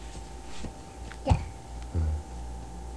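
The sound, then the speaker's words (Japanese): A small dog lets out one sharp, high yelp, followed moments later by a short low whimper, against a quiet background hum. “小さいワンワンやな。”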